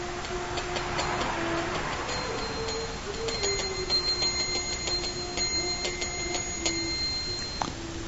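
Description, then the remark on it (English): A small auspicious hand bell rung steadily for about eight seconds during a worship offering to the Lord, its bright metallic strikes coming in quick succession with a sustained ringing tone between them, with no voices. “Remember to ring the auspicious bell.”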